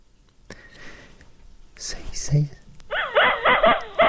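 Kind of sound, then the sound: animal, dog barking and whimpering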